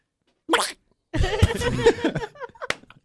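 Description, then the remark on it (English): A brief breathy puff, then a long, croaky, voiced burp that rumbles for nearly two seconds, loud, with no speech around it; a person burps as their buzzer sound in a rapid-fire guessing game. “Burp. Burp. For ….”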